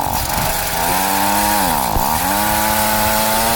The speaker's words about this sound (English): Yeah, we're going to have to drill a new hole, buddy. Let's move the fishing hole over here. I got the drill.